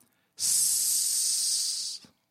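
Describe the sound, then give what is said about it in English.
A single long, steady hissing "sss" made by a human voice, bright and sizzling, ending the cheer line "Our team is red hot", held for about a second and a half at even loudness before cutting off sharply. “In other words, sizzling. A long S.”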